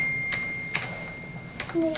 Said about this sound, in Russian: Ага. Еще вы печатаете.